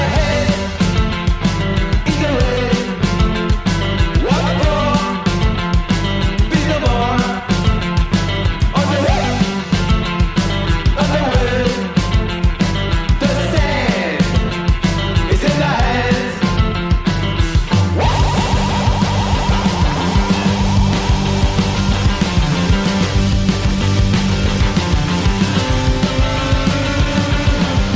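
A loud, dense rock song plays straight through, with pounding drums, thick guitars and shouted vocals pushed hard over the band.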